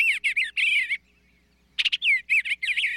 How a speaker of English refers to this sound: But did you know that some bird songs contain secret messages? Like this sweet singing eastern bluebird.